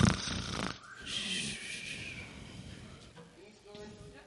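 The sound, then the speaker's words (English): A voice imitates the snoring of a sleeping sheep in a Christmas story being read aloud, with a raspy, breathy snore sound that drifts into softer voiced breathing toward the end. “They snuggled up while Cecil snored.”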